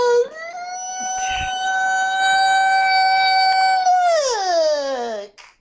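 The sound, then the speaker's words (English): A voice imitates a fire siren with one long, loud, steady wail that rises at the start, holds for several seconds, then slides downward and cuts off. “Turned all fire siren on me just now.”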